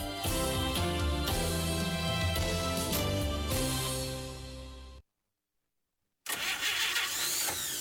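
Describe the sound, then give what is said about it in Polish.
An old car engine cranks and sputters loudly for several seconds, cuts out to a brief silence, then a rough, noisy rumble of the engine returns. “zostaw tego grata w spokoju. Teraz w naszej Unii mają niski procent na kredyty samochodowe”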